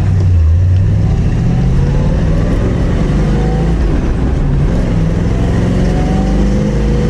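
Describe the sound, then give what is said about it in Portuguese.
A second-generation Chevrolet Corvette Stingray's V8 engine roars loudly and steadily, a deep rumble with rising and falling revs throughout, with no voices over it. “Então, fivela o cinto e confere aí, principalmente o estilo e, claro, o ronco do V8.”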